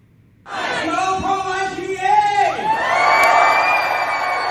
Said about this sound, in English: Listen to the energy of that crowd at the Pennsylvania March for Life in Harrisburg. Pro-lifers of all ages joined each other in September on the steps of the state capitol.